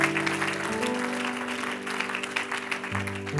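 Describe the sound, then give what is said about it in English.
A large crowd applauds their pastor steadily and loudly for several seconds, a dense wash of clapping hands, while sustained organ chords shift underneath. “If you love your pastor, let him know by giving a great big hand clap.”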